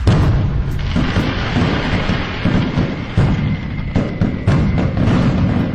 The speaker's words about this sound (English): some celebratory fireworks for that news.